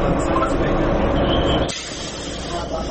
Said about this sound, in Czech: Stižem gradskim prijevozom